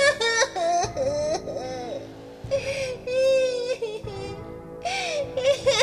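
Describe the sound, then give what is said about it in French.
A woman cries and sobs loudly, with drawn-out wailing moans broken by short catching breaths, continuing for several seconds with no other voices. “Ne pleure pas, ma jolie, on va t'aider, nous.”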